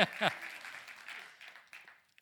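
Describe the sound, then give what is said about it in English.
A burst of applause from a church audience applauding themselves, dense clapping that starts strong and gradually thins out and fades over about two seconds, with a voice briefly heard at the start. “No, wait, applaud yourself.”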